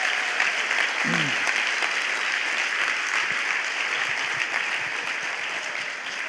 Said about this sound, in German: Gib dir mal einen Applaus. Gib der Band mal einen Applaus.